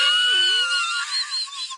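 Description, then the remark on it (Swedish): Roe deer mating calls: a continuous, high, thin whining squeal with a wavering pitch that dips early and then rises and flutters, lasting about two seconds with no talking. “Och det här var ett ganska nytt läte. Ja. Rådjur, det var en skräll.”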